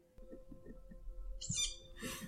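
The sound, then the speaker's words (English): Two harsh, raspy tawny owl calls sound in quick succession near the end, loud, over a quiet low rumble with faint soft thumps before them. “Have you heard them tawnies when they're really, really angry?”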